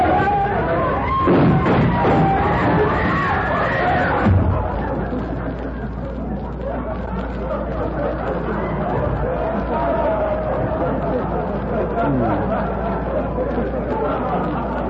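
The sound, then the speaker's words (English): Dense chatter of a crowd of shoppers in a store's busy bargain basement: many overlapping voices blend into a steady, loud babble, slightly brighter for the first few seconds before settling into an even hum. “It is pretty crowded at that.”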